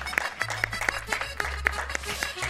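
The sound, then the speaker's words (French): Applause fills the hall, thanking a radio station's team: a steady stream of sharp, crisp claps at a fairly even quick rhythm, moderately loud, with a low rumbling hum beneath and no one speaking. “et c'est les applaudissements dans la salle.”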